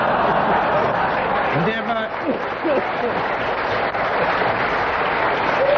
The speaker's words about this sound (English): While the audience were laughing and clapping, Kenneth Williams pressed his buzzer.